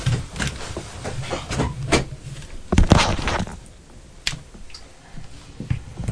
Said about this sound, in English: Can you not open the door? No.